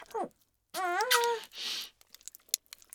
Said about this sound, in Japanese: 私の兄貴、お兄さん、ジュルジュル音を立てて吸い付いてますね。